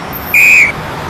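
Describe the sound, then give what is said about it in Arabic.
A traffic policeman's whistle, blown at vehicles at a traffic light to signal them to stop or go, gives one short, shrill, steady blast of under half a second, loud over a faint background hiss, with no talking. “إنه لا يلعب، بل يصفر للعربات.”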